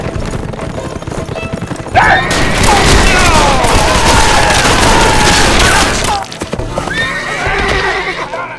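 Several spooked horses whinny loudly and shrilly in agitated bursts during an ambush on outlaws, overlapping with dense, chaotic noise and clattering hooves, then calm briefly before another neigh rises near the end.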